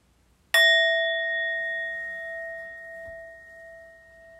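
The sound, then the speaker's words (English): A meditation bell is struck once at the start of a guided body scan meditation, ringing out clear and bright, its shimmering tone lingering and slowly fading over several seconds with no talking. “And so we'll come into the body scan by listening now to the bells.”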